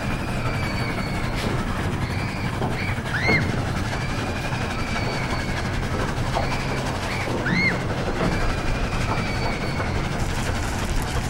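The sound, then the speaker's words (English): A train moving at a speed of 30 rumbles steadily along the tracks, wheels clattering over rails with occasional high metallic squeals, loud and continuous throughout with no voices. “Stop the train!”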